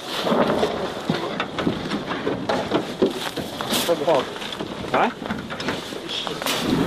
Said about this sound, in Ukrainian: А оце вибухи були? Це їхні гради працювали.